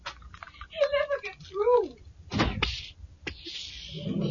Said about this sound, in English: Stand back while I open the door. Ready? Yes. Here goes then.